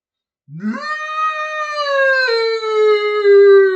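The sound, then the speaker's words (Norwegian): A single long, drawn-out howl made by a human voice mimicking a wolf calling a herd, rising at the start then holding a steady, slowly falling tone for several seconds, loud with no other sounds. “Vil du ikke ha meg til gjeter? Spurte ulven. Jo, kan du lokke, så?”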